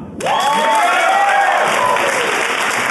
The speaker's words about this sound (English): Yeah. I think we should do applause-o-meter. Applause-o-meter.